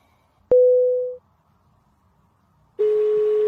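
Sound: phone call tone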